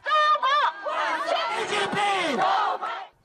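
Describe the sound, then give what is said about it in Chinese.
A crowd welcoming Xi Jinping's US visit, gathered outside the Washington Convention Center during the Nuclear Security Summit and waving Chinese and US flags, shouts the slogan "Long live China" in unison. Voices rise and fall together in loud, sustained chant phrases with overlapping calls, continuous for about three seconds. “在会场外围的一处场所，同时聚集着欢迎习近平访美和抗议的人群，欢迎人群挥舞着中美两国国旗，叫着中国万岁的口号。”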